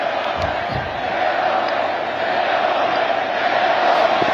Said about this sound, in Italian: Leone, Leone, ha gridato la folla, successore dunque di quel Leone XIII che fu l'autore della prima enciclica sociale, la Rerum Novarum.